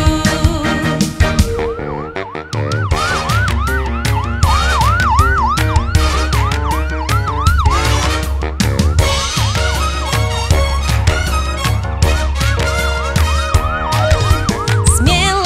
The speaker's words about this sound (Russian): Вау-вау-вау, маячок включаю. Вау-вау-вау, сирены сообщаю.